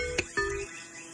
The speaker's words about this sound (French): Et toujours les oiseaux chantent